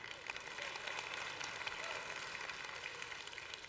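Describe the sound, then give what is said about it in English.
A crowd at a service claps steadily for several seconds as the speaker takes a drink, a dense, even patter of many hands with no voices on top, holding at a consistent level throughout. “Like, every time I take a drink, if you would just clap, that would be, like, awesome.”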